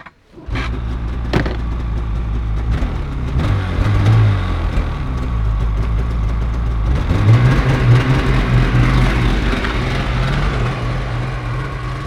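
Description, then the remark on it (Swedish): A snowmobile engine roars for the whole stretch, its pitch climbing in two revving surges as it accelerates, turns sharply and drives off in a cloud of snow, with a brief sharp knock near the start and no talking. “Vänder på en femöring och bara försvinner i ett snömoln.”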